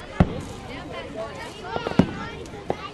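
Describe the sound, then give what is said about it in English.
Independence Day fireworks bang outdoors at Oakland Beach in a few sharp, irregularly spaced pops and booms, one early and two later, over a low murmur of background voices of gathered relatives. “Charette's aunts and uncles gathered on Oakland Beach to watch Independence Day fireworks”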